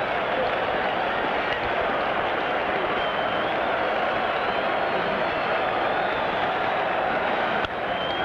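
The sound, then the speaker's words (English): A big stadium crowd of fans at a Major League Baseball game cheers in one sustained, loud roar that never lets up for the whole stretch, as the pitcher is one strike away, a dense wash of voices and clapping with no single speaker standing out. “Some question who the fans were cheering for earlier. There is no question now.”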